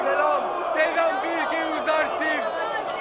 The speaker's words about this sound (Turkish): Büyük bir coşkuyla bağıran bu insanların içinde bir sesin sahibini bulmak mümkün değil efendim.